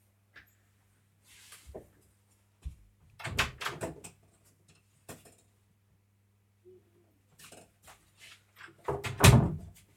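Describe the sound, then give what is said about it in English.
Irregular knocking and thudding against a door as a dog knocks with a bone to get in, in scattered bursts over several seconds, with a low steady hum underneath and no talking. “Oh God, that's my dog knocking to get in with a bone.”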